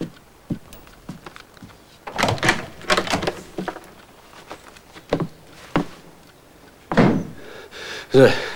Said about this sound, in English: Moira goes to stand in front of Edward as Morris opens the door and leaves.